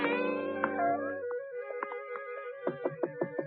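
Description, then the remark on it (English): A gray Persian cat meows in a long, drawn-out tone, then gives a quick run of short, clipped mews in a loose rhythm, moderately loud with no talking, while following people down a path to the front door of a ranch-type home. “A gray Persian cat followed us.”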